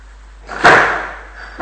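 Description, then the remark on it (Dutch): A door shuts with a solid, fairly loud thud that rings briefly, followed moments later by a second, softer knock as it settles. No one speaks. “misschien weer de deur dicht doen.”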